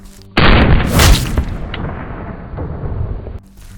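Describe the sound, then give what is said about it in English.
A single loud pistol shot from an FN57 pistol firing an American Eagle 40 grain round into a gel block, a sharp crack that blooms into a booming blast and rumbles away over about three seconds, with no voices. “Okay, first up, we have American Eagle 40 grain out of the FN57 gel block.”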